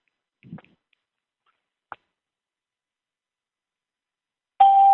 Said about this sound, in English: What we're doing is we just turned off the entry and exit chimes so we don't get interrupted. The way the conference line works is when somebody calls in, we hear a ding, and when they hang up, we hear another kind